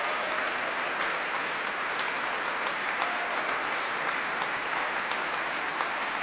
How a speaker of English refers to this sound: Every decibel of that applause is utterly deserved. That was an exceptional performance of the Chopin third sonata.